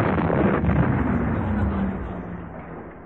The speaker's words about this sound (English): What was that? That was a special effect. Oh, an explosion. Uh-huh. Perhaps I could turn to Amanda Smoth here, the special effects expert. Tell me, Amanda, how exactly did you manage to get that incredibly realistic effect of an explosion?